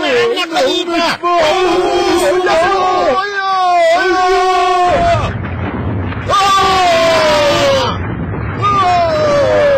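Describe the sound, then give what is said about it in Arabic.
A deep blast from a smart cannon booms out midway, a loud rumbling burst surrounded by excited shouting and yelling voices before and after it. “المدفع الذكي. لا سمعك جيد. إنه المدفع. انتبهوا.”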